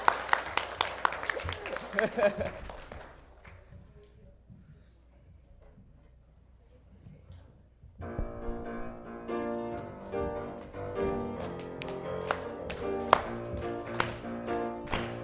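An audience claps loudly for a few seconds before the applause fades into quieter murmuring; band music with steady percussion then starts up.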